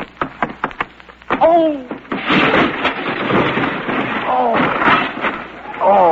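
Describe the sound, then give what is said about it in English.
Someone attempting a backflip cartwheel crashes into a table: a quick series of sharp thumps leads into a loud, sustained crash of clattering dishes as the table goes over, with voices groaning and exclaiming through and after the din. “You've upset the whole table. Ooh. Wait till I pick up some of these dishes.”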